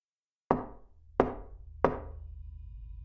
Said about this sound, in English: I was still dazed when she whispered to me that someone was knocking on our front door. I sat up in bed and silently strained to listen. That's when I heard it. Three soft knocks.